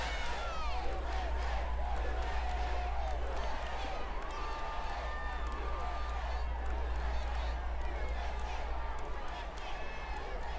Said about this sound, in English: Shouts of USA, USA, USA coming from the crowd.